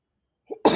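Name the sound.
sneeze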